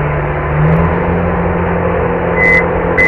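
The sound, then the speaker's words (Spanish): A crane's diesel engine drones in a steady low rumble as it hoists a load up, heard through a window. Two short, high warning beeps sound near the end. No one speaks. “El tío está subiéndolo con una grúa.”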